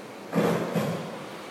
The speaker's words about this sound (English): Ujjayi breathers, pinch the muscles at the base of your throat and start producing a sound akin to the sound of the ocean. So the friction of your breath coming in, friction of your breath going out becomes smooth like an ocean wave.